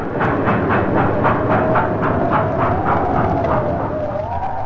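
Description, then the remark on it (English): A train rumbles loudly, its wheels clacking in a steady rhythm while a high, drawn-out brake squeal rides over the heavy noise as it slows to a standstill during a raging snow blizzard in New York. “Trains lumbered to a standstill.”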